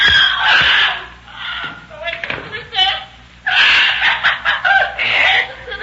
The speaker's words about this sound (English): Now for you, you squawking bird. Go ahead, talk your head off. You won't be able to in a minute.